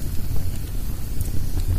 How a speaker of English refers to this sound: You can hear that log has steam in it, a little bit of moisture in it. You can hear the steam coming out of it.